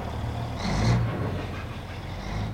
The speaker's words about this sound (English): The Uducton site is in Dutch Harbor, one of America's top fishing ports. The docks are bustling with tractors and other heavy machinery.